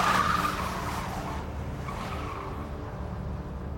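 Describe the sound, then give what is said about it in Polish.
A car screeches away, its tires squealing loudly at the start, then the engine roars steadily as it speeds off toward Angel Fire Drive. No one speaks. “słysząc to, co sił w nogach pobiegła do samochodu i pędem ruszyła w stronę Angel Fire Drive.”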